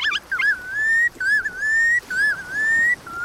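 A red knot, a chunky shorebird no bigger than a robin, gives a series of clear, drawn-out whistled calls, about four in a row, each sliding slightly upward, loud with no talking.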